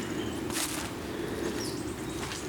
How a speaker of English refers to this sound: Everywhere's a squelch and because there's been so much rain, everything is boggy and squelchy, even this what is normally a very dry path.